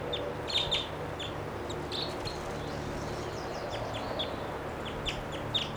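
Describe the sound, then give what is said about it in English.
Two wild birds, one higher up and one lower down, call back and forth with short, high chirps and clucking notes, repeated irregularly throughout over a steady, hissy background. The calls are fairly soft, and no one speaks. “There are two birds here, wild.”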